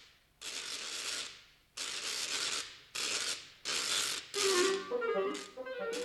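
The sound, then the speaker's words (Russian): A homemade hand ratchet noisemaker whirls in six loud bursts of rapid, harsh clacking with brief pauses between; the later bursts carry a faint tinkling melody woven into the rattle, as the ratchet plays waltzes and polkas when swung. “даром времени не терял и смастерил трещотку”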